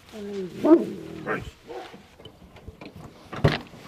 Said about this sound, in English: That dog barks every time people are talking. Every time he likes to have a big part of the conversation, I'm sure. He's feeling left out.